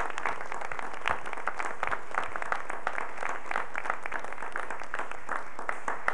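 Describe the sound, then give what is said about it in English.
Steady applause from an audience for the dean of the College of Pharmacy, a dense patter of many hands clapping at once, holding an even, moderately loud level for about six seconds with no voices standing out. “I think he deserves a round of applause for his excellent work.”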